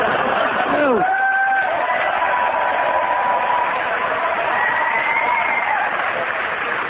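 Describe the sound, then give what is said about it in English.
A loud, sustained burst of audience cheering and applause for a player finishing in fourth place in a game, with whoops and a few high whistles rising above the steady roar of the crowd. “I've never had anybody finish in fourth place and get a bigger cheer than that.”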